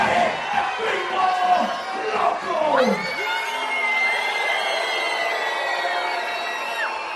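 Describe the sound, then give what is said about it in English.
A large, predominantly Latino wrestling arena crowd jeers and shouts at wrestler El Gringo Loco, who taunts them by throwing out tortillas; many voices overlap into a loud, dense roar that holds steady, with sharp whoops and drawn-out yells rising above the din. “Entering the arena in Stars and Stripes spandex, he taunts the predominantly Latino crowd by throwing out tortillas, only to have them thrown back at him.”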